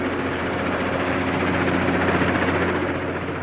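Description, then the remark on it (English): A helicopter touches down on a landing pad on the top deck of an offshore rig, its engine and rotors making a loud, steady drone with a deep low hum underneath and no break in the noise throughout. “The helicopter touches down on a landing pad on the top deck of the rig.”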